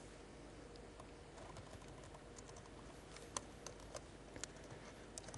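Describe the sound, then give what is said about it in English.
Quick, irregular clicks of typing on a computer keyboard while writing code, fairly soft, with a few sharper keystrokes standing out over a faint steady background hiss. “My keyboard, my fingers.”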